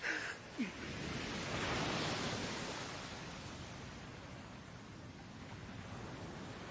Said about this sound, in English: There's a shiver in me, suddenly. And I don't think it's just the soaking I took from these waves.